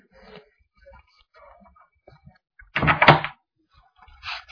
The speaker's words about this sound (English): And let me just shut the door here.